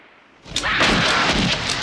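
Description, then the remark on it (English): A rapid volley of gunshots bursts out after a quiet start, loud, the repeated cracks running together into a sustained, echoing barrage as Heather and Bert fire repeatedly at a creature. “Hearing gunshots, Rhonda looks over at the little house.”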